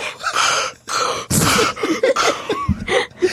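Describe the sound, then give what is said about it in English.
A person imitates Darth Vader's heavy, mechanical mask breathing: several loud, raspy inhales and exhales in a steady rhythm, with no talking. “Because of his mask and he sounds all weird when he's breathing.”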